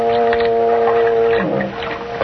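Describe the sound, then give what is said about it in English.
A loud, low foghorn blows one long, steady blast that wavers and fades out near the end, with no voices present. “That was just a foghorn.”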